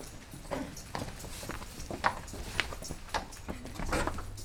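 Horse hooves clip-clop at a steady walking pace in a riding hall, each hoof beat a distinct soft thud repeating about twice a second, with a faint background and no voices.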